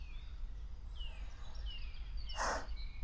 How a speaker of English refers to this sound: Then he takes a turn off the main path, shaded, quieter. Just the sound of birds and the rustle of leaves.